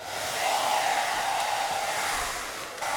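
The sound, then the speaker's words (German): A hair dryer runs steadily for a few seconds, blowing paper planes through a studio: a loud, continuous whooshing roar with a faint whine, and one brief dip near the end. No one speaks. “Föhn an und Papierflieger ab in den Sturm.”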